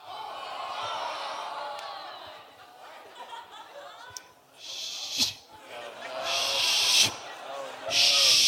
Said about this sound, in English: And I'm not naming that snake movie. I'm actually saying, shh.